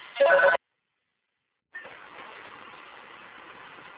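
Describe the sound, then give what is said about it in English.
A single short burst of a telephone ringing, fairly loud, followed by about a second of silence and then a steady, muffled rushing noise that continues to the end. “So anyway, I got that phone call there.”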